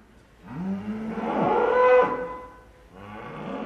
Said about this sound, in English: That's right. Blame it on those happy California cows. Well, some of it anyway. Methane comes out both ends. They burp it out as a natural part of their digestion, and the other, I'll leave to your imagination.